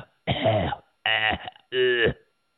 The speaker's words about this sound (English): Coughing.